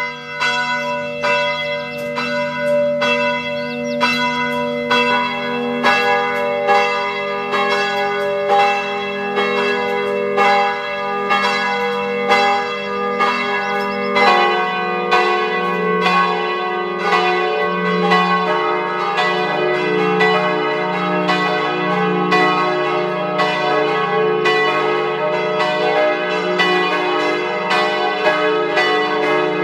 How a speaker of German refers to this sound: Es ist 12 Uhr. Sie hören die Glocken der Pfarrkirche Frauenthal in der Weststeiermark.